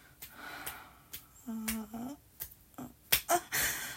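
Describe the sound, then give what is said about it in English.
A woman slapping her own genitals: sharp, irregular slaps on skin, about eight quick smacks with uneven gaps between them, accompanied by breathy sounds and a short voiced moan in the middle. “I'm just giving my pussy some slaps for you, baby.”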